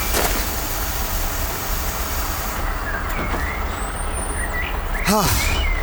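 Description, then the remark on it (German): Bus doors shut over a steady engine rumble, with a sharp pneumatic hiss at the start and a brief whining mechanical sweep near the end. “Und die Türen gehen zu, das war knapp.”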